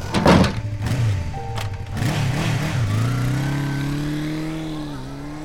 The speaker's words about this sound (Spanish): Claro, me da con la puerta en la cara y se va.